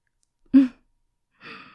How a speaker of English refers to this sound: Cute little gasp.